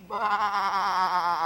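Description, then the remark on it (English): A single sheep bleats, a loud, wavering baa held for over a second with a quavering tremble throughout, and no voices around it. “That makes four sheep.”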